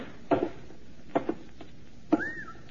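An inner door is worked open: two dull metallic clunks, then a third knock followed by a short rising-and-falling hinge squeal, against a quiet background.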